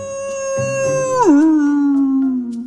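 A great big wolf lets out one long, loud howl, holding a high steady note before sliding down sharply and trailing off on a lower pitch. No one speaks.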